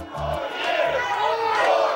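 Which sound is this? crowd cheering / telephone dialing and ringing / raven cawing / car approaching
crowd cheering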